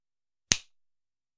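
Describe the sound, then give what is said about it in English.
A single crisp finger snap cuts through the silence, a sharp bright click with a brief ringing tail that fades quickly, and nothing else around it. “The time in between my finger snap and command seems to stretch on for an eternity.”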